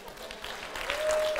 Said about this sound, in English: Y'all might need to cheer a little louder. They need to turn their hearing aids up. All right, baby boomers, we see you.